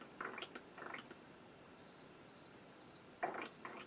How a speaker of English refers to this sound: It's usually nice and cool, so I had to open up a window. But welcome the crickets to the show, by the way.